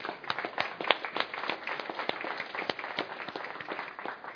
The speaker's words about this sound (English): If you're wondering why we're clapping your hand, because we are rejoicing with you. Amen.